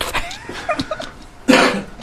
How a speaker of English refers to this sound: And a cough. We added a cough. Just for fun. It's the Benson and Hedges cough. This cough brought to you by Benson and Hedges.